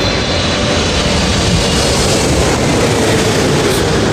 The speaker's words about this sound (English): I could almost catch a ride on that plane. It's so close. Yeah, it sounds like it.